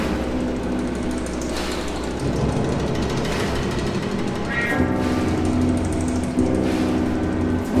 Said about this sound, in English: Wolf draws on oral histories, Italian and Yiddish folk tunes from their homelands, and the sound of sewing machines buzzing on the factory floor.